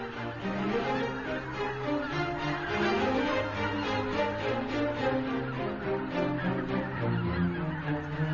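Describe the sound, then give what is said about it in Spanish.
A large flock of geese spending the night on shallow receding floodwaters honks continuously, overlapping calls forming a dense, steady clamor with no pauses, like many birds gathered together. “Los gansos pasan la noche sobre aguas decrecidas, donde se sienten a salvo.”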